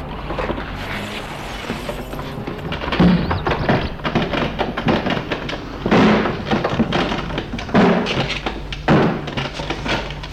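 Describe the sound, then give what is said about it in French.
The old front door of a derelict house with broken shutters and windows is forced open with several heavy shoves: dull thumps and grinding scrapes at uneven intervals over a steady low rumble, with no voices. “Il se fera un chemin jusqu'à la porte, l'ouvre en poussant difficilement.”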